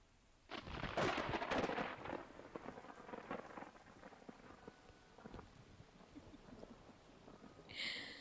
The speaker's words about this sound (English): The thick of the storm has not passed, and you really are the most stimulating company.